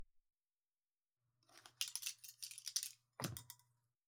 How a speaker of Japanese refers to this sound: さて、すいた髪を別のハサミで整えてまいりますね。